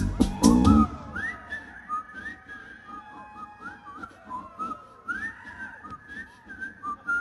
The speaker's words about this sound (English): Whistling of Andy Griffith.